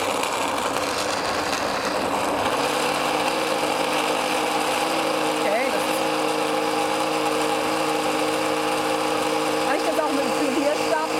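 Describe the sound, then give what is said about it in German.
An electric blender runs continuously in a TV studio, a loud, steady motorized whir churning a cold soup mixture, with muffled voices faintly underneath. “Ich mix das, weil ich sag mal so, wir sind ja hier in einem Studio im Fernsehen.”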